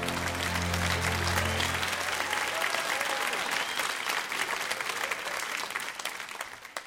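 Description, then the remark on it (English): A crowd gives presidential applause, loud and steady, a dense wash of clapping that holds throughout, with a low sustained tone underneath for the first couple of seconds before fading. “That just broke the record for presidential applause right there.”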